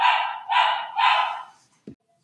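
A female dog barks three times in quick, even succession, each bark full and moderately loud, followed by a short faint thud and then quiet. No one speaks.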